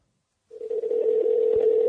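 A steady electronic telephone tone on a Verizon call line starts after a short silence and holds continuously, fairly loud, with a brief low thump as the line cuts out near the end.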